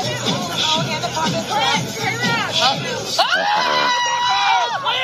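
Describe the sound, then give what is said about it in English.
Wedding guests scream and shriek in alarm as a dancing man's hand catches fire, voices overlapping in a dense, loud babble with high-pitched yells rising above the commotion throughout. “Everybody else is screaming.”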